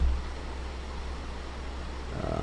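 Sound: air conditioner hum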